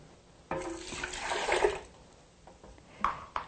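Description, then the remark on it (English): A cup of water pours into a blender jar holding whole garlic cloves in a steady splashing gush lasting about a second and a half, followed by a few lighter clinks and drips. “We'll add the cup of water.”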